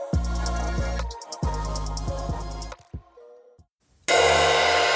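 A metallic cymbal, with a little finger stuck against it, is struck with a stick and rings with a bright, sustained shimmer, hit twice in a row, then decays into quieter clanks before a loud, noisy burst cuts in at the end; meant to mimic a church bell.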